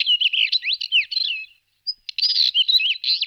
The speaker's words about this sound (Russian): Ну и что сейчас сказала эта птичка?